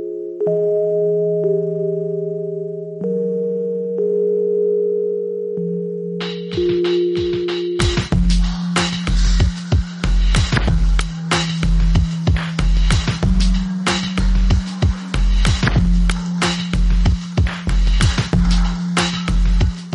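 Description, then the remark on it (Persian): Soft, nasal-toned Rhodes electric piano chords sustain alone for several seconds, then a dense electronic beat with sharp, punchy percussion enters while the mellow Rhodes keys continue underneath. “لطافت صدای تو دماغی این پیانوی رودز رو ببینید.”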